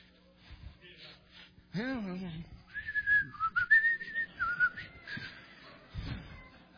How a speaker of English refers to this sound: Everybody started whistling when they get scared.